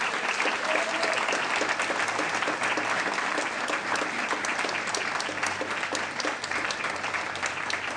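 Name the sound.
audience applauding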